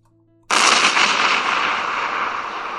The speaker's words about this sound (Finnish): Räjähdyksen painoaalto heitti Kuntsin ulos tehtaasta ja hän teki tyylikkään mahalaskun suoraan Bertan jalkojen juureen.